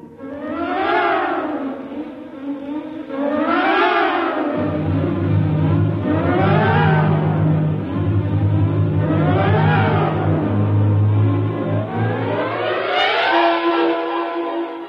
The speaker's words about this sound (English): Somehow the engine coughed and spit us back to the station.